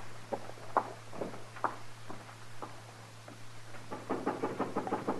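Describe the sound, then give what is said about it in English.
Boot heels click along a hard floor in a steady walking rhythm over a low constant hum; the steps grow quicker and more clustered toward the end. “Your heels, Chester. Be quiet.”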